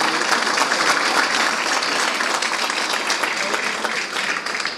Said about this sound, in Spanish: Muy bien, un aplauso.